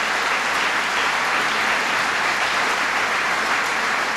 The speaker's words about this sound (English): Dr. Calleros, a big round of applause.